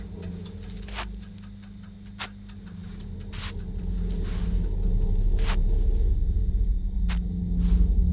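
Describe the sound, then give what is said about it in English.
A steady, low road hum from a moving car fills the space, swelling slightly louder toward the end, with sharp ticking clicks landing roughly once a second over it. “The road hums, the wheel hums”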